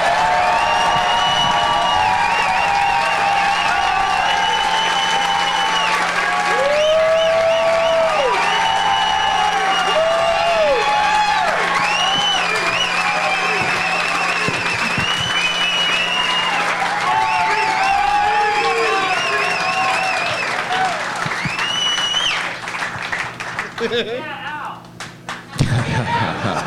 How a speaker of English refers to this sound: There's a lot of chanting for Ari, and then finally a yeah, Al.